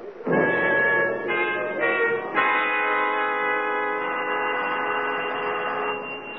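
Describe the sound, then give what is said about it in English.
A doorbell rings with a few quick changing chime tones, then one bright tone that holds and rings on steadily for several seconds, with no voices; no one answers it. “The fact is, he doesn't answer the bell.”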